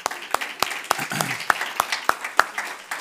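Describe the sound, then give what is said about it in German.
Brief applause given as thanks, with a few sharp, evenly spaced hand claps standing out over a softer wash of clapping, steady for a few seconds. “Vielen Dank, ein Applaus an dich.”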